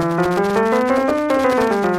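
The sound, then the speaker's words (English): A scale in the D Dorian mode, using the notes of the C major scale but starting on D, is played as a quick run of sustained, evenly spaced notes climbing stepwise and then descending again, clear and moderately loud with no talking over it. “For example, in the C major scale, which, by the way, is also known as the Ionian mode, we can take those notes and we can, instead of starting on C, we can start on D. And now we come up with this.”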